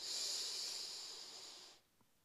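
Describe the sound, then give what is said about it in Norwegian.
A long, steady breath drawn in through the nose during a breathing exercise, a soft airy hiss lasting almost two seconds before it stops, followed by near silence. No one speaks. “Da begynner vi å puste godt inn med nesa.”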